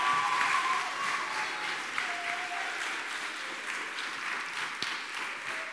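An audience applauds steadily for several seconds, a dense wash of many hands clapping at a fairly even level before easing off slightly toward the end.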